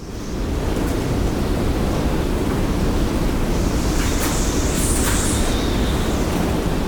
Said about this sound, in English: A sound like the onrush of a hurricane filled her ears for nearly a minute before dissipating.